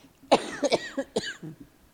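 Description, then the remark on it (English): A short burst of harsh coughing: several rough coughs in quick succession over about a second and a half, fairly loud, with no talking. “I'm going to get started coughing here.”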